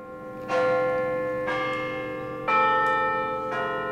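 The UT Tower chimes ring out to open a ceremony dedicating a new memorial, in a slow, steady sequence of four bell strikes about a second apart, each tone rich with overtones and lingering resonance, sounding loud and open with no voices.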